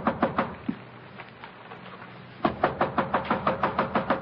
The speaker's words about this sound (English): Our scene opens in a corridor of a Metropolitan Hotel. A man with a briefcase in his hand has been knocking impatiently at one of the room doors.